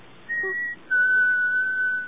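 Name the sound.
whistle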